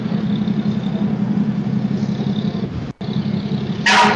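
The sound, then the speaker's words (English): A large decorated fire truck of the Marion City Fire Department, with giant candy canes on its front, passes in a parade. Its engine rumbles steadily, a low, even drone with a brief cutout near the end and a sharp hiss of air at the finish. No one speaks. “Oh wow, they put an immense amount of effort into decorating this fire truck.”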